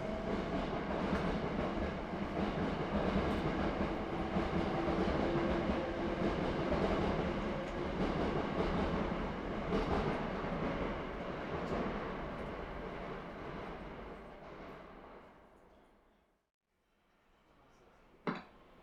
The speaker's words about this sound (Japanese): この電車は先発各駅停車大阪梅田駅です。大阪梅田終点までこの電車が先に到着します。まもなく発車します。